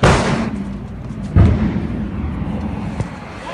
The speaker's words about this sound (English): The blast, recorded on a resident's cell phone, was by a gang blowing open cash machines.